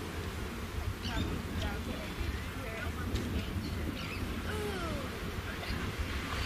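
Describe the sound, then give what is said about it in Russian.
Steady, roaring ocean surf mixed with wind blows continuously for several seconds, a dense low rush with no breaks, and faint high chirps flicker above it. “Вот океан шумит, я думаю, вы слышите.”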